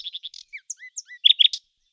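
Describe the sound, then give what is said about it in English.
A nightingale sings a short, varied phrase: quick chirps and slurred whistles, then a burst of louder, rapid notes. The song is clear, with no voices. “"With the greatest pleasure," said the nightingale, and began to sing most delightfully.”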